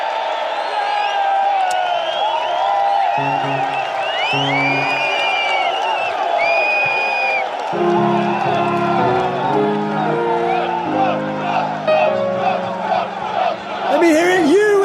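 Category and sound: crowd, crowd cheering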